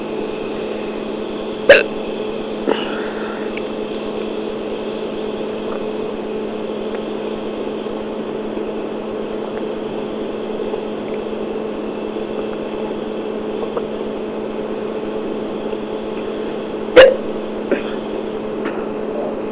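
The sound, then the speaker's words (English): Two sharp, abrupt hiccups, one near the start and another much later, separated by a long pause, over a steady low mechanical hum with no talking. “And I try to stop the hiccups by drinking something.”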